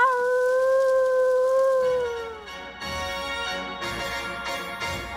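dog howling

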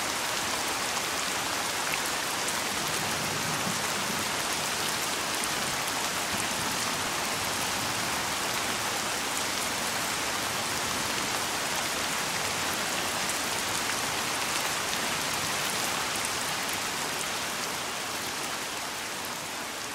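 rain falling

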